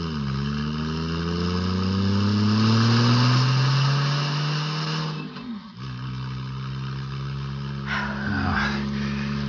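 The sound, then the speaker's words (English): A car engine revs up after the car is shifted into drive, its pitch climbing steadily and loud, then drops abruptly after about five seconds and settles into a steady lower drone, with a brief rough burst near the end. “Shift it back to drive.”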